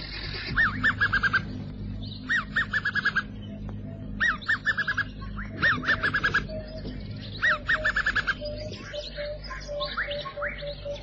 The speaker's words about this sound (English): The springboks drink at the water's edge, and on a nearby tree sits a chanting goshawk.